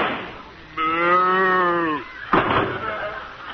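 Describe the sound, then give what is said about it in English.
A single drawn-out cow moo, steady and fairly loud, lasting just over a second and sliding slightly downward in pitch, followed by a burst of rough noise and murmuring voices. “She's a cow.”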